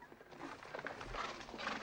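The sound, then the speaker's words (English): The horse of rebel leader Lobato shifts, hooves clopping irregularly on the ground, with a brief whinny rising over the steps. Moderately loud, with no talking. “Cassie, Slater, PJ, and the other hired guns all look on as Lobato looks down at Max from his horse.”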